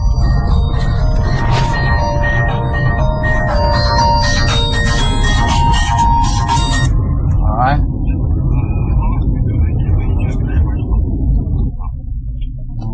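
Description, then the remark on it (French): A mobile phone rings inside a car in the open countryside with a repeating electronic tune for about seven seconds, then stops, all over the steady low rumble of the car interior. “Un téléphone pour nous dire de nous arrêter.”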